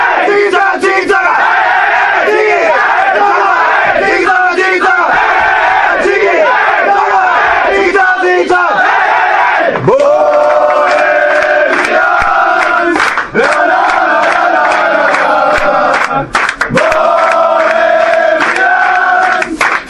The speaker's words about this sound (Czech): Ale určitě utkání bude stát za to, do Sokolova určitě doporučuji dojet a z útrop stadionu si před obědem vyslechnout vítězný pokřik našich chlapců.